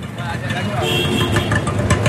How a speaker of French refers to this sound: Ça, c'est leur calme, hein, les sons qu'on entend, là, les klaxons, les tchouk-tchouk, les moteurs, tout le bazar. Ça, c'est vraiment l'heure la plus calme de la journée. Voilà, on est à Bhavnagar, vous avez compris, dans ces quartiers